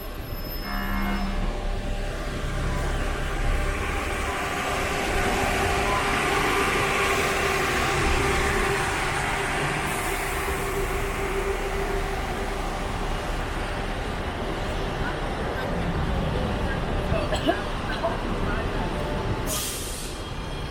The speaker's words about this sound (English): Oh, Zombieland Tours. Let's hop on the bus. Whatever you do, don't get off the bus.